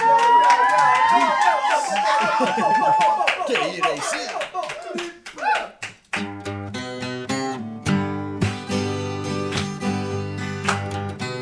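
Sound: group clapping hands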